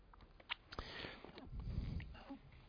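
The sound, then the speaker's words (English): A throat-tickle cough breaks out: a few sharp, breathy bursts followed by a rougher, lower rasp as the throat clears, with no talking. “Forgive me, I've had a tickle in my throat all day. I've been coughing off and on.”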